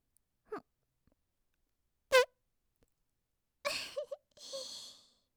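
fart

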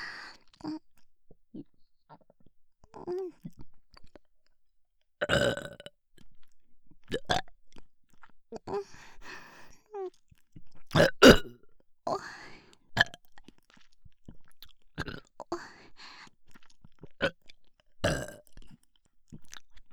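burping

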